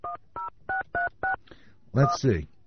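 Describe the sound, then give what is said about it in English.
Five crisp touch-tone beeps sound in steady succession as a phone number is dialed at KGOV Radio in Denver to call the Indianapolis Baptist Temple, each beep short and evenly spaced, followed by a brief burst of a voice. “I'm going to try to make a call, see if I could reach them out there.”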